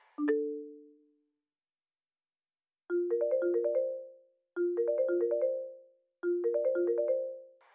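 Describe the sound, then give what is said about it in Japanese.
A single electronic note, then a bright, chiming phone ringtone melody for an incoming call from a manager that repeats three times in quick succession, loud, with no voices. “マネージャーから電話だ。”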